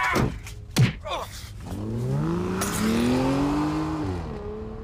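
A couple of sharp car door slams as two men put someone into the back of a black car, then the engine roars to life and revs higher and higher as the black car accelerates hard and speeds off, loud.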